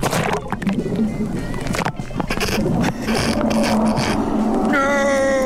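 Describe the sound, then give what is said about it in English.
A phone recording from underwater: an iPhone that fell out of a paddler's life jacket into the Grand Canal, about 6 metres deep. Dense, muffled churning and sloshing of water with dull thumps, then a steady high whine near the end. No voices come through. “That sounds like the bottom of the ocean”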